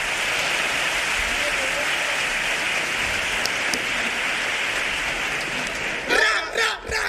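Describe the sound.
An audience applauds the first contestant of a summer game show steadily for about six seconds, a dense wash of clapping mixed with crowd cheering, before the clapping thins and a loud voice shouts over it at the end.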